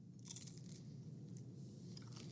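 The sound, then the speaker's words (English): A crisp bite into a homemade pan-fried python-meat potsticker dumpling, followed by a few sharp crunches of chewing, fairly quiet, with no one talking. “First bite of python potstickers.”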